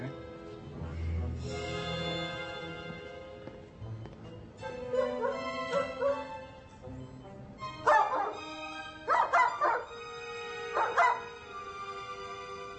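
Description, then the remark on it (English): A dog whimpers and yips with a high, whiny voice, then lets out several short, sharp barks in quick bursts. “You were a very bad dog. Are you going to be a good boy?”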